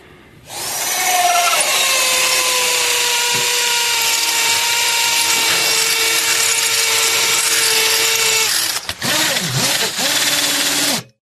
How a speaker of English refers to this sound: I came home and I heard a saw going. A saw or a drill?